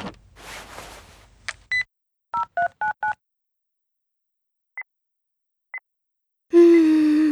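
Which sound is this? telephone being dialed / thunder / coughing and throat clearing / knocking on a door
telephone being dialed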